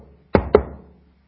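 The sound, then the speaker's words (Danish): Two firm knocks on a door, about a fifth of a second apart, fairly loud, each with a short resonant decay, then silence. “Det er banken på den dør, hvorpå der stod privat.”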